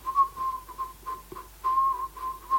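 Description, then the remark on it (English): Someone whistles a flat, monotonous tune stuck on a single pitch, in short repeated bursts with brief gaps, clear with no talking. “The thing is, of course, if you're going to write a song all on one note, it's got limited potential for whistling interest.”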